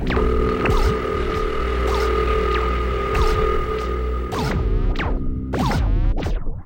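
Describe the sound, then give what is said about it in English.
A steady, buzzing telephone ringing signal, heard soon after dialing a number, hums at an even level, broken by regular brief bursts roughly every second, with no voices present. “Soon after you dial the number you want, you will hear this tone. That's the ringing signal.”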